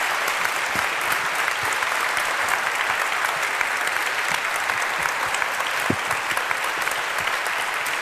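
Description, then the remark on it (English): A large audience claps steadily for a speaker at the end of a talk, a dense, even wash of applause that holds at full strength from start to finish with no voices breaking through. “Please give her a last round of applause and thank you so much.”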